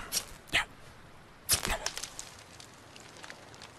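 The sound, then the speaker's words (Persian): A newly bought fire starter is struck to light unravelled hemp rope tinder: a few sharp scraping strikes, then soft, faint crackling and hissing as the flame takes hold. No one speaks. “استفاده از اون تناب که زود آتیش میگیره تصمیم خیلی درستی بود.”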